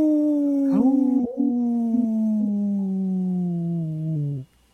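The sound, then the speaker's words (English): A wolf lets out one long, sustained howl that slowly drifts downward in pitch, loud, with no other sounds around it before it cuts off. “Hauling for Wolves. Protecting wolves for future generations.”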